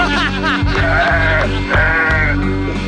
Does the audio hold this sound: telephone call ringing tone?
no